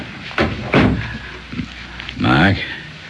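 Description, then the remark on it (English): A dressing-room door is pulled shut as people go out, with a pair of solid knocks close together, followed a moment later by a short murmuring voice. “And close the door as you go out, will you?”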